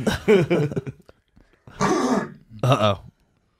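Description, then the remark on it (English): Someone coughs into the mic in three rough bursts: a longer throaty one, a pause, then two quick harsher coughs, with no talking in between. “If I cough, I'll cough into my hand”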